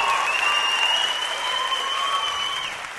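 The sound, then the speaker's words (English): An audience claps steadily and fairly loudly for a female performer for a few seconds, a dense wash of applause that tapers slightly toward the end, with no one speaking. “Give her a clap.”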